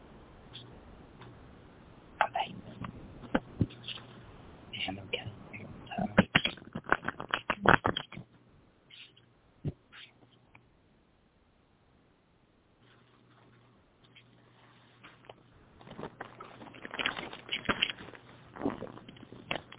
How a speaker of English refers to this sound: And I'm going to shuffle the tarot cards here.